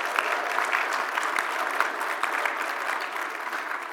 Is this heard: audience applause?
yes